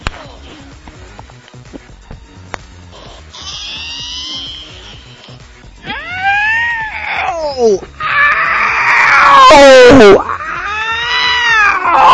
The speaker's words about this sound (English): yelling as loud as he can.